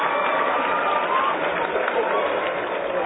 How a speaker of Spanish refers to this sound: Y, por supuesto, a Ford Company. Muchas gracias también por este apoyo. Un aplauso para todos, por favor.